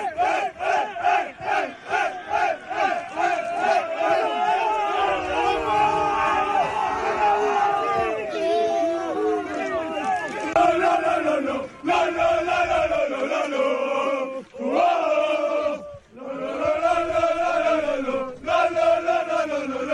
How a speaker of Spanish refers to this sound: Bueno, ahí estaba, los cánticos, los gritos, también manteo a Gurpegi, bueno, un exitazo el del Bilbao Athletic